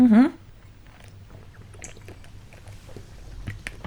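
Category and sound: human body sound, person drinking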